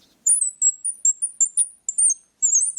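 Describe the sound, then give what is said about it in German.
A round bird-call squeaker, a small piece of wood with a piece of iron inside, is twisted back and forth. It produces a quick series of high, thin chirping squeaks, about eight in a rough rhythm with a brief pause, clear with no voices. “Und wenn man daran dreht, ich kann das gerne mal vorführen.”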